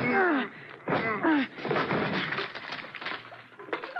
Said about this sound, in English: The whole lock came right off. I guess the door was rotten.